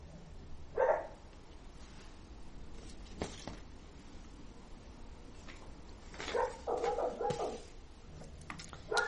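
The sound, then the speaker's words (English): A dog named Shiva gives an odd, high-pitched bark, first a single yelp, then a quick run of several squeaky barks a few seconds later, with no one talking. “It's so high pitched and very unusual.”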